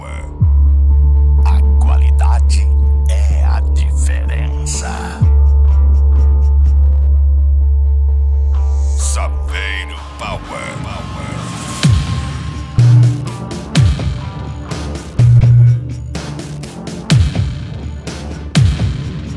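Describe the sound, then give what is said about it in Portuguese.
Heavy, booming car-stereo bass from a Saveiro car audio system with Taramps amplifier modules and Spider speakers throbs in long sustained low blasts for about ten seconds, then breaks into shorter punchy bass hits with bright, crackly upper content over the rest. “pressão do som automotivo.”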